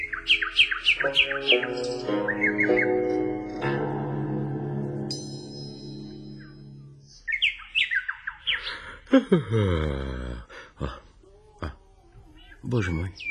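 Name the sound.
bird singing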